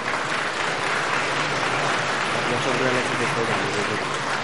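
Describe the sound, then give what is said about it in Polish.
An audience claps steadily, a dense, sustained wash of applause that holds at an even loudness throughout, applauding the Polish State Fund for Rehabilitation of Disabled Persons for its financial support. “Brawo dla PFRON-u!”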